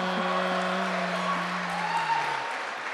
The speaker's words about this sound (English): I've never heard one of the intros, so I don't know why we're all applauding.